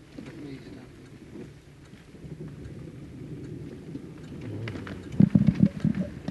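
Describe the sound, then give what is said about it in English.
Steady rain hisses throughout with low, rolling thunder rumbling underneath, and a louder burst of sound near the end; faint voices can be heard in the background. “But how will walk if it is dripping? It's raining.”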